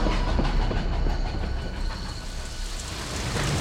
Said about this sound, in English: It was only 140 miles from Richmond to Danville, but the slow-moving train, overburdened as it was with excess cargo and the need to constantly stop and repair the track in front of it, required the night and most of the day to get there.